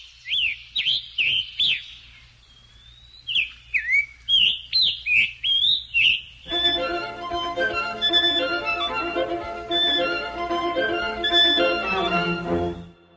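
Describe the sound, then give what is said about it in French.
A Scarlet Tanager (piranga écarlate), a songbird of the cardinal family, sings a series of hoarse, burry whistled phrases with short pauses, clear, for about six seconds. Then a string quartet takes over with a passage from String Quartet No. 12 that takes up the bird's song, and plays on without the bird. “c'est à l'évidence le chant d'un Scarlet Tanager, un piranga écarlate, un passereau de la famille des cardinalidés, dont le plus typique est le cardinal rouge.”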